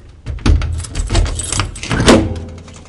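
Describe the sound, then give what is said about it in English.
A museum storage drawer holding a dinosaur tailbone chevron is pulled open, its metal runners scraping and rumbling while loose contents rattle and clink for a few seconds, with no one speaking. “Melling finds a drawer with the tailbone chevron”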